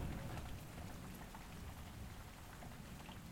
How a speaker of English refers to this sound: As the evening turned to nightfall, the rain showers transformed from intermittent to non-stop.